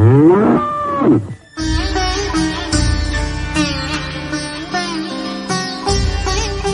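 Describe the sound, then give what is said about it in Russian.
A bull, one of seven untamable bulls being subdued by Krishna, who passes a rope through each one's nose, gives one loud, drawn-out moo, then a full burst of music kicks in and carries on to the end. “7 Кришн обуздали 7 неукротимых быков.”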